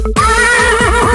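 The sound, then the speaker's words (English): A horse neighs loudly, a single sustained whinny with a bright, wavering pitch that fills the whole short moment. “Good day, horse.”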